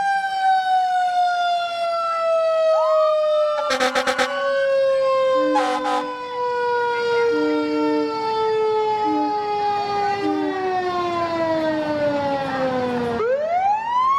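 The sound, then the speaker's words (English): A loud Cal Fire engine siren wails during a parade in a long, slowly falling tone, with short bursts of horn blasts cutting in, then the siren dips and rises again near the end. “Once again, Cal Fire providing just so many great services for our state.”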